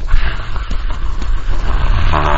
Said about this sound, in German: Ungefähr wie dieser herannahende Zug, der jetzt kommt. Es sind nur Autos. Ich dachte, es kommt ein Zug.